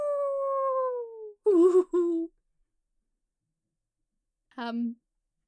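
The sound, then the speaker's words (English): A person singing alone imitates a howling dog: one long, drawn-out wail slides downward, followed by a couple of shorter yelping howls and, after a pause, one brief final whoop. The voice is fairly loud. “I kind of feel... like I'm a dog howling at this point.”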